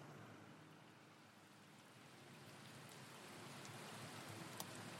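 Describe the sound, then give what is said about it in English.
Steady rain falls outdoors outside the Sharp Clinic, a dense continuous hiss with scattered drops pattering on surfaces, growing slightly heavier toward the end, with no voices present. “The man standing in the rain outside the Sharp Clinic”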